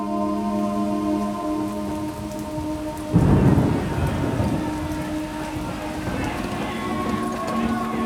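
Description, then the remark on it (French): Steady rain falls throughout, a dense hiss of drops, with a loud low rumble of thunder breaking in partway through and fading slowly while the downpour continues. “Il pleut, mais ils sont tous venus au spectacle, massés le long du parcours jusqu'à la grande place.”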